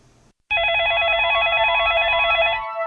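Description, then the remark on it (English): A loud electronic phone ring with a rapid warbling trill, sounding steadily for about two seconds after a brief quiet moment, then cutting off into faint background noise. “Chuck, you got another phone call.”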